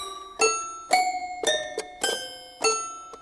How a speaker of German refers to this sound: Oder zwei Spielzeugklaviere. Das ist ein Toy-Piano, ein Spielzeugklavier. Das klingt ein bisschen wie ein Glockenspiel.